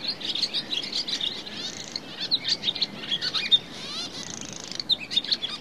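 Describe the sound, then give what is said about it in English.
A barn swallow sings a rich, continuous babbling twitter of quick high chirps and buzzy trills, flowing without pause and heard alone with no talking. “The song, often given from a wire or on the wing, is a wonderful rich babbling which flows like water”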